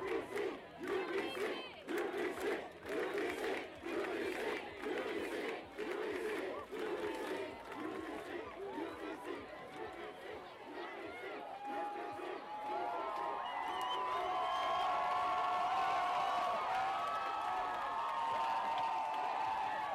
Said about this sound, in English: Someone is on top of their friend's shoulders, and everyone started screaming. It was really exciting.